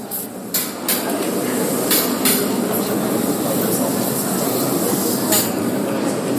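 A pickaxe chips at stone in a handful of sharp, irregular clinks, about five strikes spaced unevenly, over a steady wash of loud rumbling background noise. Workers are cutting stone in the left nave of a church, digging and preparing the tomb for Pope Francis.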